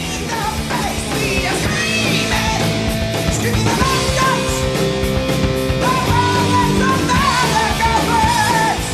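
Loud, dense heavy metal from 1982 plays throughout, with distorted guitars and pounding drums under a piercing, high-pitched screaming vocal that holds long, soaring notes.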